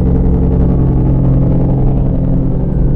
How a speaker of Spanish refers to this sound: Es que estoy en Lázaro Cárdenas y hay un chingo de tráfico hasta ahora, que regularmente no hay, pero hay un chingo de trailers, güey, y la chingada, y están haciendo un chingo de ruido.